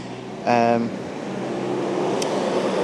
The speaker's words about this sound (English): As you can hear, a bus going past me, I think.